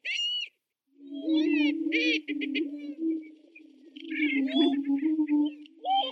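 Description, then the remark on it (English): Prairie chickens booming during their dance on fire-managed prairie grassland in Wisconsin: a low, droning hoot from several birds holds steady for seconds, overlaid with sharper, higher cackles and whooping calls that come and go. “You can reserve a spot in a blind to see and hear them dance and boom, but the waiting list is long, so plan to try for the following year to reserve a spot.”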